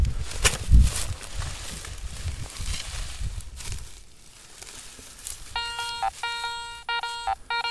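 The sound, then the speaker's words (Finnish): Scraping and rustling in soil in a field, then a metal detector's buzzing signal tone sounds in three steady bursts separated by brief breaks, fairly loud and without talk. “Luultavasti joku korkki, koska sieltä kuuluu tuommoinen pörähdys.”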